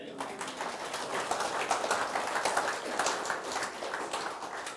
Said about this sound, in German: Gott ist treu. Gebt Gott mal einen Applaus.